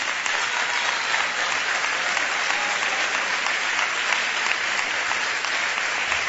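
Sustained audience applause, a dense, steady clatter of many hands clapping at once, loud and continuous without a break throughout.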